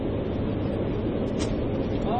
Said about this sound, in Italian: C'è vento.